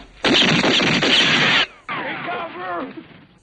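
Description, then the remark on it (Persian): A loud, dense burst of rapid gunfire lasting over a second, like automatic weapons, followed by a quieter stretch where a voice shouts and calls out. “تو احتیاج به تمرین تیراندازی داری؟ فقط به درد سر و صدا کردن میخوره.”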